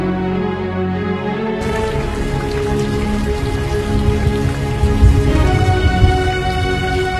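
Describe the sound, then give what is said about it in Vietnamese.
Heavy rain pours down steadily in a dense, continuous hiss, with low rumbling gusts of wind swelling underneath and growing stronger toward the end. No voices are heard. “Anh ơi, mưa gió như vậy sao anh không chịu vô trong?”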